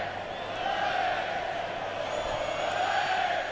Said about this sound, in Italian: Olè da parte dei tifosi del Real Madrid.